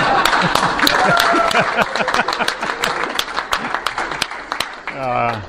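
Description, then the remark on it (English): An audience applauds the idea people with dense, steady clapping for about five seconds, a few voices murmuring underneath, before the clapping fades and a single voice begins to speak. “We didn't clap for the idea people. They didn't mind because that generally happens anyway, but let's do that.”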